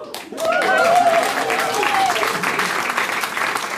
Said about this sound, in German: Da jubeln die Frauen und die Männer denken, oh fuck.